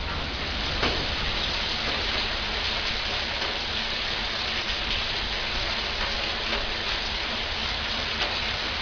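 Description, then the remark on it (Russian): A steady, even hiss of rain falling outside, continuous throughout with occasional faint pattering drops, moderately loud and with no voices. “Ничего не слышите? Прислушайтесь! Там, снаружи! Это дождь. Идет дождь.”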